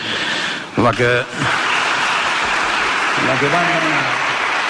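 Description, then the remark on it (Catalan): Dense, steady applause from a crowd inside a council chamber fills the whole stretch, loud and even, with a voice briefly rising above the clapping twice. “Aplaudiment tancat a l'interior.”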